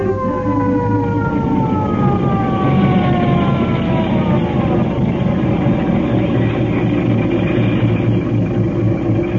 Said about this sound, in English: Boy, when I roll past the Elks Club with a siren going 70 and me going 30, those guys will be like...